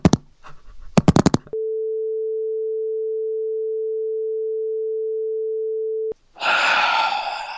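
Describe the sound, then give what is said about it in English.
A few sharp clattering clicks, like a phone handset being put down, give way to a loud, steady phone tone droning for about four seconds, followed by a noisy breathy rush. “If he makes more than Vince McMahon, I'm hanging up the phone.”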